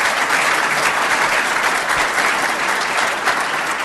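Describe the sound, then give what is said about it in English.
A crowd claps steadily and loudly for about four seconds for a man being thanked, a dense, even wash of many hands with no voices breaking through. “Could you give him a good round of applause?”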